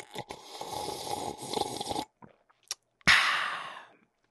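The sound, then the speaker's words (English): A deliberate ASMR sip of a drink: a long, wet slurping sip fills the first two seconds, followed by a pause, a small click, and then a sharp breathy burst that trails off. No one speaks. “I am very partial to ASMR and putting like a ridiculous huge number of points, like 10,000 points, and I'll do another ASMR sip like this.”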